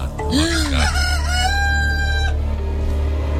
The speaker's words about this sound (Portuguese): E aquela noite não seria normal, porque o morador de uma fazenda viu o galo começar a cantar por volta da 1 hora da madrugada.